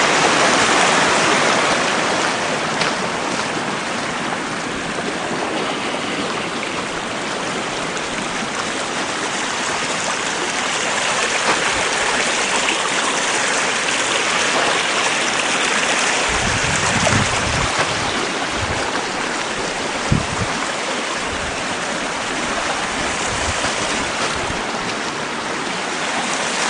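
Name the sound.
creek water flowing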